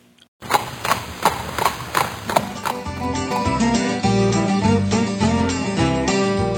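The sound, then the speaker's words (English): A horse's hooves clip-clop in a steady, even rhythm for a few seconds, crisp, then upbeat music swells in and carries on over the remaining stretch. “Rewards for just riding your horse, any breed, anywhere.”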